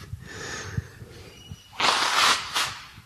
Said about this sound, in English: Excuse me, I have to blow my nose. Hang on.